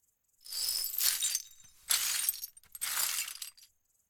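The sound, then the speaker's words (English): Broken glass is swept off the driver's seat of a car in three quick, gritty swipes, each a bright tinkling rush of shards scattering, with brief pauses between. “You cut your hand on the glass. You swipe the glass off the driver's seat.”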